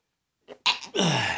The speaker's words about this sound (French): Je vous éternue en pleine face durant votre show. C'est dur d'éternuer. J'ai pas fait mon chou habituel, là, donc je vais sûrement avoir des problèmes de chiro, là, parce que j'ai retenu.